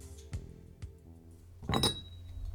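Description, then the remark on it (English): A cup of tea is handed over in Eagle Rock. The teacup clinks lightly against its saucer twice, then a louder, brighter clink rings with a short high tone over a soft low hum. No one speaks. “I thank her for the cup of tea she hands me”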